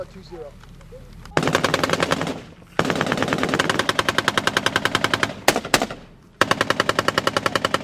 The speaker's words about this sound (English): Like villains in a video game, Taliban militants in black tunics pop up on rooftops, from behind mud walls or in trenches. They fire at the patrol with AK-47s and rocket-propelled grenades, then disappear. Hey, suppress! Suppress that building!